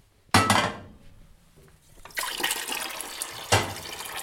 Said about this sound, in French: On va mettre de l'eau à chauffer. On va remplir une grande casserole d'eau.